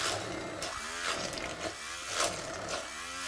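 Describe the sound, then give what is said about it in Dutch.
A motorized blender whirs steadily, its pitch rising and falling in repeated surges as it churns well-cooked chickpeas, drained but left with a little liquid, with no voices over it. “En dat er nog een heel klein beetje vocht in is, zodanig dat we dat heel gemakkelijk kunnen mixen.”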